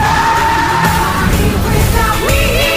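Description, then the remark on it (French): A car used as a ram skids, its tires squealing loudly and continuously in a long skid, with a harsh engine roar underneath and the pitch rising sharply near the end. No one speaks. “Vous pouvez utiliser un intermédiaire. La voiture bélier.”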